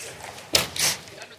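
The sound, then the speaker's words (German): An extra chair being set up on stage during a short break for guest Lutz Michael Fröhlich: a sharp knock followed moments later by a short scraping clatter, fairly loud against a quiet room. “So, wir machen eine ganz, ganz kurze Pause, müssen nämlich ein Stuhl? 1, 2, 3, 4, 5... Noch einer zustellen auf jeden Fall.”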